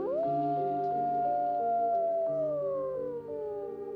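A chorus of gray wolves howling, several long, sustained tones overlapping and slowly sliding in pitch, steady and fairly loud throughout, with no talking.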